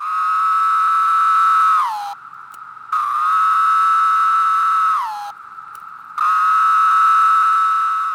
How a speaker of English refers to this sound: The call is amazing. Having only heard a few, and not a deafening chorus, I have the luxury of appreciating this bizarre sci-fi sound effect of an insect call.